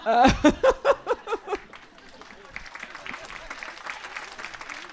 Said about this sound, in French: Non mais, oh, là, on est en train de d'applaudir cet homme. Girl power.